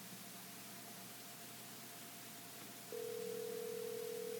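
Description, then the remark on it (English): A phone line rings out on a call to a guide in Mille Lacs, Minnesota: steady hiss, then about two-thirds through a single mid-pitched ringback tone starts and holds unbroken, louder than the hiss, until the end. No one speaks. “Ladies and gentlemen, we'll see if we can get him on the phone.”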